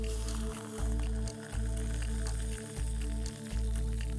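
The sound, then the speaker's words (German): Hot water is dispensed into three cups of instant coffee: a steady humming flow that briefly cuts out four times at fairly even intervals, with no voices. “Das sieht aus wie Fischfutter. Hier nimm mal drei. Ist das der Twist? So, heißes Wasser.”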